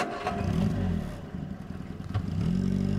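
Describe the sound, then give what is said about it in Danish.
A car engine rumbles and revs, with low droning tones shifting in pitch and a few clattering knocks, as someone gets into the car, starts it up and drives away to the next case. “Så han kan pakke sin Olympus rejseskrivemaskine sammen, sætte sig i bilen og køre videre til den næste sag.”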